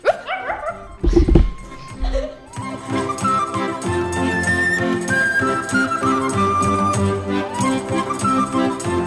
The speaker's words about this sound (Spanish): Los dos siguieron paseando hasta que escucharon a un gato. El perro comenzó a correr y a ladrar.